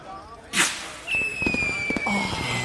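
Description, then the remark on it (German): A New Year's Eve firework rocket set off from a balcony goes off with a sharp hissing burst, then a long thin whistle slides slowly downward in pitch while faint crackles and murmuring voices carry on underneath. “Ja, wir machen das Feuerwerk auf dem Balkon.”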